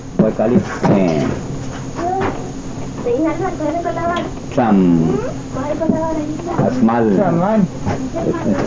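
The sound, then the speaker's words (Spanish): A small engine's steady low drone runs the whole way through, overlaid by loud, wavering voiced sounds and bursts of breathy hiss. “small engine drone. That engine drone is here.”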